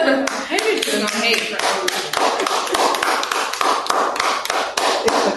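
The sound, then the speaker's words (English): Several friends clap and applaud each other's answers together, a steady flurry of sharp, overlapping claps lasting the whole stretch, with a brief voice mixed in near the start. “I just love how y'all clap and applaud each other's answers.”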